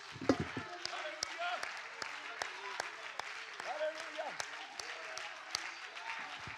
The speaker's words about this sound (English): Let's clap our hands and shout unto the Lord right now.